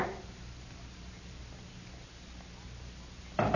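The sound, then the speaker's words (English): A quiet, steady hum continues until a sudden, sharp knocking on a door breaks in at the very end, brief and loud. “Somebody's at the door.”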